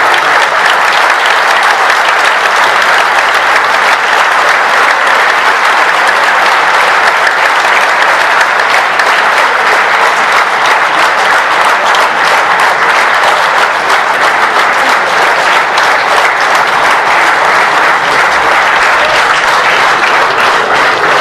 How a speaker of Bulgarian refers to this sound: А сега ми позволете да ви приканя да изпратиме нашите гости със ставане на крака и аплодисменти. Благодарим за това, че те ни уважиха и се надяваме да бъдем заедно.